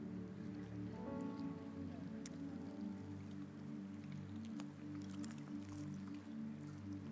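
Sealed communion cups being peeled open make a dense, continuous crackling patter, much like light rain, with sharper pops here and there over a steady low hum.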